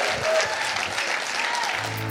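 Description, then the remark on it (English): An audience at Father's Vineyard church gives a shout of praise to God at the end of a service, clapping in a steady, dense wash of applause that holds at a constant loudness throughout, with a few indistinct voices mixed into the clapping. “Let's just give him one more shout of praise, and we'll do business.”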